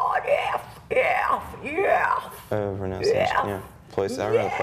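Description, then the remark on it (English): A heavy metal singer's harsh, strained vocal scream in several loud bursts, shifting between gritty, noisy stretches and a more tonal, wailing cry with brief gaps between phrases. “Metal ist pure Emotion und Sänger müssen selbst herausfinden, wie sie den richtigen Ton oder besser gesagt das perfekt wütende Geschrei treffen.”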